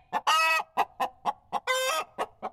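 A chicken clucks in a quick, rhythmic series of short clucks, broken by two longer, drawn-out squawking calls, with no voices present.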